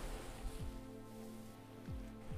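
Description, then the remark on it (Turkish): A soft, steady wash of gentle sea waves on a sandy beach, with no one speaking. A faint low hum runs beneath it, and two brief falling tones drift through. “Şimdi sadece kulaklarına uysal dalgaların sesi ulaşıyordu.”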